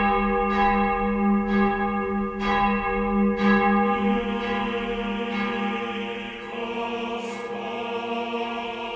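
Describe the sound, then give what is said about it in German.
The large church bell Blasius Major tolls with steady, regular strikes, each one blooming into a long, humming resonance that overlaps the next. It sounds loud, with no voices. “Die große Blasius Major erklingt übrigens vor allem am Karfreitag, dem Todestag Jesu, oder auch bei Konzerten, wenn kein Applaus gewünscht ist, bei Passionen oder einem Requiem.”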